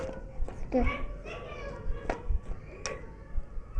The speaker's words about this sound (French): Et qu'il y a dans la cour. Oh, il y a des petits enfants qui jouent, tu sais.